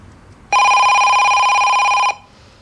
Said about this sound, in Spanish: Queda petrificada al oír el teléfono.